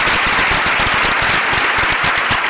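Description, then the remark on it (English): Dense, sustained applause from an audience in a crowded room for Sophia Amoroso, many hands clapping at once in a steady crackling wash that stays loud throughout, with no voices standing out above it. “Give one more round of applause for the lovely Sophia Marusso.”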